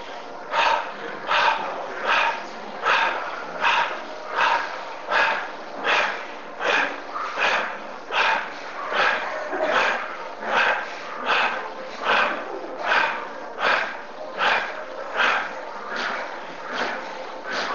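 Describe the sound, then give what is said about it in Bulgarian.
Rapid, forceful bellows-style bhastrika breathing exercise: a steady train of about thirty sharp, loud breaths, each a strong rushing puff, repeating evenly with no speech. “А сега пак мини на бастрика, дишане.”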